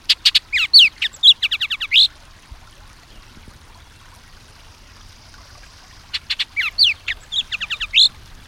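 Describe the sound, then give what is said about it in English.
Loud bird song from a Bullock's oriole overhead in a leafy cottonwood tree by a stream in eastern Washington, bursts of sharp whistles and rapid guttural chuckling notes, heard twice with a quiet gap between, over a faint steady background hiss. “That loud song we're hearing, a mix of sharp whistles and guttural chuckles, is bursting out overhead.”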